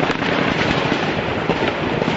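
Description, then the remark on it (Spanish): Gunfire crackles in quick, irregular bursts of sharp pops at the Westgate shopping centre in Nairobi, Kenya, during a security forces operation against Al-Shabaab gunmen, one shot tumbling over the next in a loud, continuous clatter with no voices. “Han bloqueado todas las rutas de escape del Westgate, donde desde hace horas se escuchan tiroteos intermitentes.”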